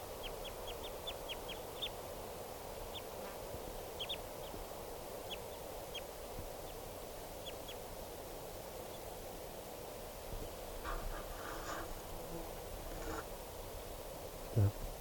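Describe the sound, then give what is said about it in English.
Calls of a single wild male type 2 crossbill: sharp, high chip notes, first in a quick flurry, then scattered singly over several seconds, all above a steady background hiss. “there were at least six type 2 crossbills around total.”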